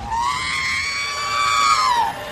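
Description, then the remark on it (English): A loud, sustained electronic scream from the droid R2-D2, a single high-pitched wail that holds steady for about two seconds, then bends downward and cuts off. No voices accompany it. “God, my soundboard every time I join a Discord is the R2-D2 scream.”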